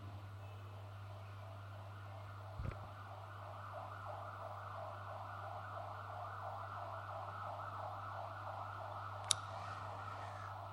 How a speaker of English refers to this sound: Right, it's an ambulance.